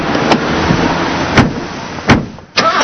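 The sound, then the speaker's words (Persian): A car door opens and shuts, giving a few sharp clunks and clicks spaced over a couple of seconds against a steady background hum, fairly loud. “بیا با ماشین من بری. واو، ماشین نو مبارک.”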